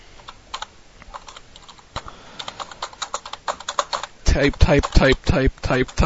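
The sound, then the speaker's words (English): Slow, uneven clicks of someone typing the words "Money in the Bank ladder match" on a computer keyboard with two fingers, point-and-poke style, crisp, for several seconds before a voice starts talking over the last few keystrokes. “I am typing with two fingers.”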